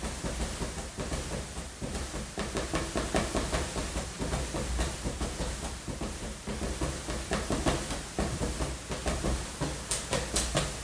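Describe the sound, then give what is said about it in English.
A noisy balloon gives off a loud, steady roaring hiss that fills the whole clip, with a rapid fluttering pulse running through it and no voices. “That a noisy balloon.”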